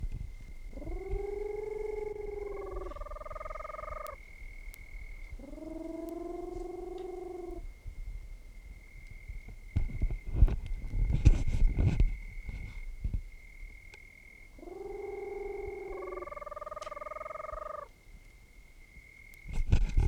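A Peruvian screech owl of the Otus roboratus subspecies, at Perinas, Department of Piura, Peru, gives three bouts of hoarse, harmonic calls that step upward in pitch, with a steady thin whine running throughout and a burst of rough noise between the bouts.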